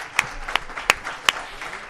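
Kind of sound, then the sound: crowd, applause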